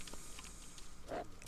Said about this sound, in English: There's a dog. South. East.